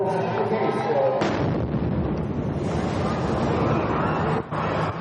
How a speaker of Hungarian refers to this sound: Ez volt a tavalyi bostoni maraton legsokkolóbb pillanata. Április 15-én a célvonal közelében bomba robbant a nézők között. Néhány másodperc múlva pedig felrobbant egy másik is.